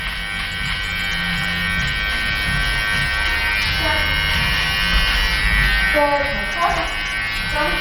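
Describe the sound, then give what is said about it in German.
A loud, steady electric shaver buzzes continuously with a dense, rough hum right at a person's ear as sideburns are shaved off, and people talk over it. “Ich halte jetzt mal kurz inne, weil dieses Gerät direkt an meinem Ohr summt.”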